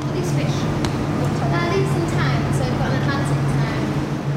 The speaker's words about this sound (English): So I can give you a slightly less swish example. Here's a bit of audio from sea life in London with a lot of background noise.